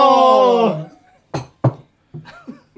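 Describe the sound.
Two quick, bright glass clinks sound close together, as in a toast. A sustained voice comes just before them and brief voices follow.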